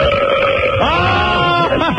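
A long, loud, drawn-out burp with a low croaking rasp that wavers in pitch, rising and falling before trailing off with a final gurgling swell.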